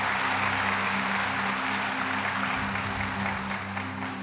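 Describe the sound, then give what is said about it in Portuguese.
A church audience applauds Jesus, a dense wash of many hands clapping at constant loudness throughout, with a low sustained musical hum underneath and no one speaking. “Então aplauda Jesus, por favor.”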